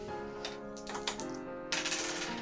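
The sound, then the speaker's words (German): Dice clatter across a hard tabletop in a short burst of quick rattling clicks, fairly quiet, with no voices, rolled for a dexterity check. “Okay, würfel mal Geschicklichkeit.”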